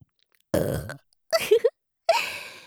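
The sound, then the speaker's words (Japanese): Three loud burps in quick succession: a long low rumbling belch, a shorter choppy one with a couple of gulping pulses, then a final drawn-out burp, with short silences between. “準備運動って言ったから一回だけのしょぼゲップとか思ってたんじゃないですか？”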